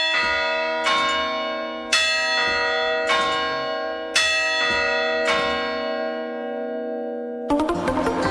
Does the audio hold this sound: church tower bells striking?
yes